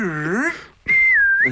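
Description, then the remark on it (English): A loud comic wolf whistle: a swooping first note, a brief gap, then a long, clear high whistle that dips slightly and lifts again at the end. “there's one of those sort of petty whistle sounds that you get from carry-on”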